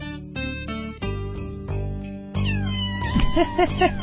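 Cat meows pitched into a cheerful holiday tune, each meow landing as a note over steady musical backing, with quick yowling glides near the end. Loud and close, with no talking.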